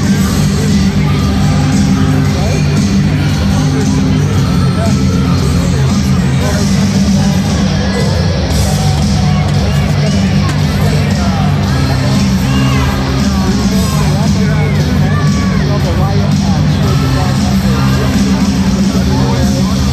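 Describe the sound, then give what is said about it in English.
A large hockey crowd roars steadily for twenty seconds after a fight in the game, a dense, loud wash of cheering with scattered yells and whoops rising out of the din, never dropping to quiet. “The fight has had an energizing effect on the crowd. They're definitely making more noise than before the intermission.”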